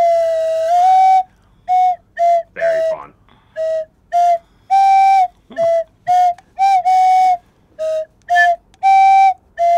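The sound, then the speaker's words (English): A 3D-printed Whistle Pop lollipop whistle plays a simple tune of about fifteen short, loud, clear notes, each a bright pure tone with slight shifts in pitch, separated by brief pauses, with no talking. “Whistle pop. Is it loud?”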